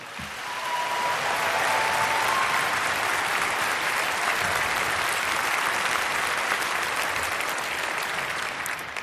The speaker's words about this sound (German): Macht noch einmal einen richtig fetten Applaus, weil ihr euch auf die freut. Das sind richtig tolle Leute. Haut mal nochmal richtig rein. Los!